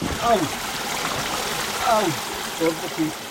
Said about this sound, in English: This morning, we descend down the Rio Espiritu Santos, the river of sacred spirits. We trudge through an obstacle course of slippery boulders and fallen trees.